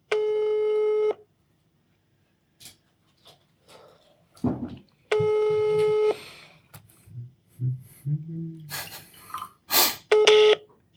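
A telephone call being placed to Olli Wesselow: a steady electronic ringing tone sounds three times at roughly five-second intervals, with scattered short dialing beeps and clicks in the gaps between rings.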